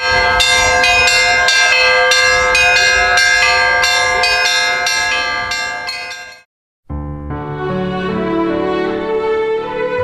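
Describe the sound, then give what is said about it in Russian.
Church bells ringing loudly and continuously in a dense, overlapping peal at Orthodox Easter celebrations, with repeated strikes layered together; the ringing stops briefly around six seconds, then resumes with a fuller, lower chorus of bells. “Звон колоколов, красивые песнопения, задор танцоров – это не могло не найти отклик в душе каждого человека.”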